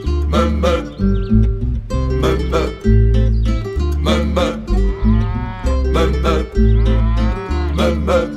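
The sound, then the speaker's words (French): Cows moo loudly, with several drawn-out calls following one another in quick succession over a steady rhythmic pulse. “Les vaches dans les prés, il faut les voir de loin.”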